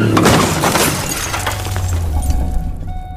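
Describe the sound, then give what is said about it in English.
A loud car crash, an accident after a car runs into a dirt pile, bursts out with shattering glass, followed by scattered crunching and tinkling debris over a steady low engine rumble that continues to the end. “Yeah, but you don't just crash people's fucking cars, Mark.”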